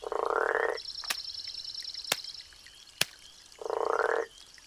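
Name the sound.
frog croaking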